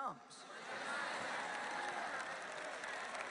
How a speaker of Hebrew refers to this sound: ישוע חוזר. עכשיו, אתם יודעים, אתם מוחאים כפיים כשאני אומרת ישוע חוזר.